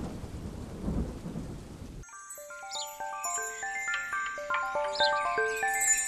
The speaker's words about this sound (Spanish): Se está yendo la tormenta. ¡Ah! Menos mal.